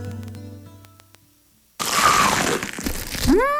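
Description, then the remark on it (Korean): A soft tonal ringing fades out, then a loud crunching burst of crisp biting into crumble-coated crispy fried chicken (60 Chicken's 크크크 chicken) fills the rest, with a short rising whistle-like tone near the end. “바삭해. 맛있는 60개 치킨. 크럼블을 입혀 크런치하고 크리스피하다.”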